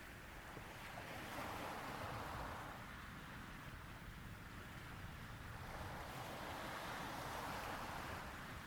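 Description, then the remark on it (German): Ocean waves wash ashore on a warm summer day in a steady, continuous roar, with broad surges swelling and receding over several seconds, fairly loud, with no voices. “Du hörst die Wellenbewegung des Meeres und genießt es, nichts zu tun zu haben an diesem angenehm warmen Sommertag.”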